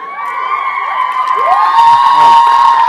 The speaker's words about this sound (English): I never thought that that line would elicit cheers.